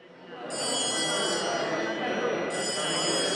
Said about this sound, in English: Bells call parliament members to order in the National Assembly.